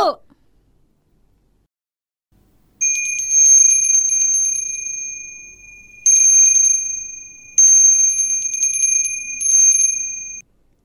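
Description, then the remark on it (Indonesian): A bell rings loudly with a fast, rattling trill, sounding in four sustained bursts separated by brief pauses, played for a sound-guessing game. A short sound at the very start comes before the ringing. “Suara lonceng, Bu!”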